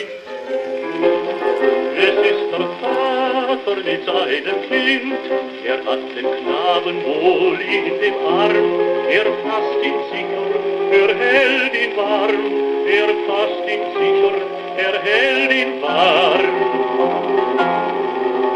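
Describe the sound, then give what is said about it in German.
An old shellac record of Goethe's Erlkönig, set as a song by Karl Löwe, plays on a hand-cranked gramophone with a thin, tinny tone, steady surface hiss and scattered crackles and clicks running underneath throughout. “Am Knistern und Rauschen der Aufnahme ist es zu hören. Das Lied wird von einer Schellackplatte abgespielt.”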